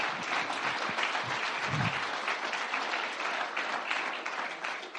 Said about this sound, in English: Thank you very much. Let's give her a big clap. Isn't that wonderful?